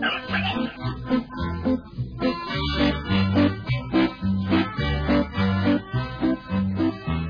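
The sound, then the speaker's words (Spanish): A pig grunts and oinks over and over in a steady, rapid rhythm, the low snorting calls loud for several seconds without any talking. “¡Hey! ¡Chanchito! ¡Chanchito! ¡Ven! ¡Chancho!”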